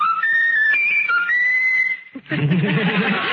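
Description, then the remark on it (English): A pet bird whistles a clear, high melody that rises and falls through several notes for about two seconds, then breaks off into a brief pause and a loud, raspy, warbling squawk. “Is that the bird doing that?”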